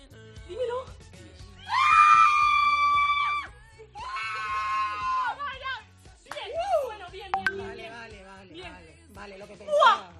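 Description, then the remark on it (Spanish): A girl and her mother shriek with joy in long, high, sustained bursts after the girl learns she got the exam grade of 9 she needed, then break into breathless exclamations and laughter, loud. “Bueno, gritos ha habido en este caso, ¿eh? De esta chica y de su madre, necesitaba un 9 y mira, ha sacado ese 9, ¿no?”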